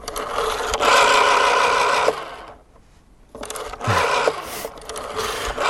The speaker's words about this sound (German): Für mich ist das auch ein Kindheitsgeräusch. Das ist so ein Telefon, so ein altes Wählscheibentelefon. Hatten wir früher auch, klingt für mich super angenehm.